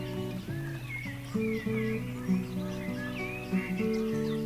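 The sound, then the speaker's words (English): Birds chirp and warble softly in the evening at Welsh Bicknor, their calls coming in short, scattered phrases over steady, sustained background music, with no talking. “After a day of amazing bridges and a train ride through the Forest of Dean, we leave our cyclists enjoying the evening birdsong in Welsh Bicknor.”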